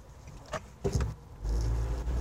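Inside a moving car performing a difficult traffic maneuver: a couple of brief mechanical clunks and a whir, then a steady low engine and road rumble swells up as the vehicle pulls through, with no one talking.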